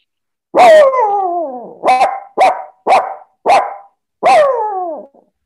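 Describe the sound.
A person imitates a dog, giving a drawn-out howling bark followed by four short, sharp yips and one final long bark, loud with no other talking.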